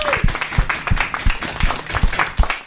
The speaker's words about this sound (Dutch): Dus ik ben echt mega trots. Applaus voor jezelf. Applaus voor jezelf.